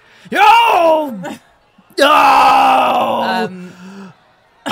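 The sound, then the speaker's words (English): A man lets out two loud, wordless yells: a falling groan-like bellow, then a longer, strained shout that trails off, with a brief pause between them, as he spins around. “And he's just spinning, around, yelling incoherently.”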